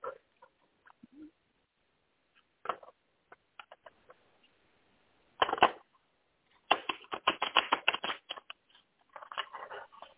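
Tarot cards being shuffled, a few soft scattered flicks followed by a burst of quick, rapid riffling and a final brief flurry, with no talking.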